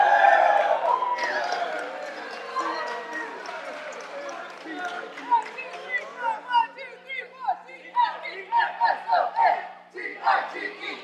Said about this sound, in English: Please stop. Okay, all right. I get it. I don't even know who you were cheering for, but I get it. Y'all are aggressive.